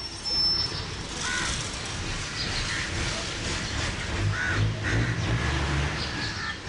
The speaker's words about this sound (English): Then up past the municipal garbage dumpster and the flock of crows that scavenge it every morning.